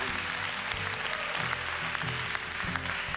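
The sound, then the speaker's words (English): A large church audience claps steadily, a dense wash of many hands applauding together that holds at a constant level for the full few seconds, with faint cheers mixed in and no talking. “That would be a good time to clap.”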